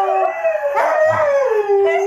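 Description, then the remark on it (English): Three huskies howl together in a sustained, overlapping chorus, complaining at not being let out, their long wavering tones rising and falling, with a brief yip breaking in partway through. No one speaks. “There's three of them. Oh, there's three. What set them off? That she's not letting them go out.”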